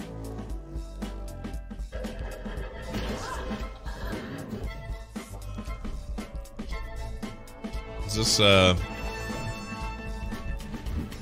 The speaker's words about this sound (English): And now we're back to smashing robots.